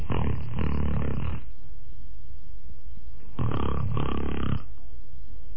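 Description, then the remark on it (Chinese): A voice imitates the loud, rasping snoring of the official Kou Zhun, asleep slumped over a table, in two long drawn-out snores separated by a pause of quiet breathing, unaccompanied. “娘娘走进来一看，寇准那趴桌子上睡着了，正打呼噜呢。”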